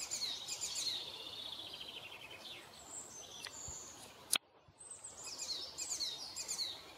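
A small bird chirps and sings in quick, bright trills and tweets, with a brief sharp click partway through and a soft background hiss.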